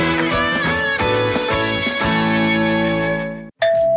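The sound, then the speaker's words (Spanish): A doorbell chime, rung by a McDonald's delivery, rings loud, several bright tones struck in quick succession and left to hang, then a short gap and one more sustained ding. “Porque cuando McDonald's toca el timbre, comienza la felicidad.”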